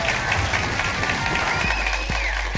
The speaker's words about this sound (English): Ladies and gentlemen, give him a mass round of applause. He's comedy royalty.